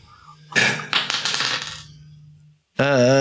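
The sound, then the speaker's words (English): Dice clatter and tumble across a hard surface in a quick burst of rattling clicks for about two seconds, then stop. After a short silence, a voice starts up. “Roll that dice, man.”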